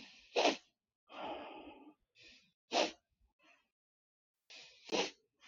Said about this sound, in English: Can you all hear how that works, where it's just a second or two of normal breathing and then a quick sniff and then an exhale back out through the nose? And you're probably only doing about, maybe a quarter to a third of the lung capacity.